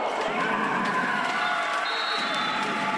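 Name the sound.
arena crowd cheering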